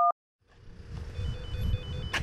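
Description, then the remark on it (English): A single short telephone keypad tone for the digit one, pressed to continue hearing a report, beeps at the very start, followed by a brief silence and then a rumbling background hum with faint, steady electronic beeping. “Please press 1 to continue hearing this report.”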